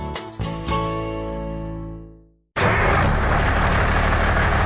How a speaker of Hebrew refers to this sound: דיזל ישן מקצר חיים. ב-1 בנובמבר יחויבו בעלי כלי רכב דיזל מזהמים בהתקנת מסנן, תנאי לחידוש רישיון הרכב.